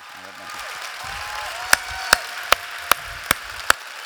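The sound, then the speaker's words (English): Six sharp, evenly spaced hand claps ring out in a steady rhythm over a faint, hushed room murmur, crisp rather than a full wash of crowd applause; applause for Dr. Corey. “Please give Dr. Corey a round of applause.”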